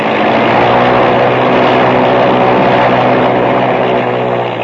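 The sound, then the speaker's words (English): A propeller aircraft engine runs up at high power, a loud, steady roar with a deep droning hum and buzzing harmonics, and no voices over it. “Well, she revs up okay”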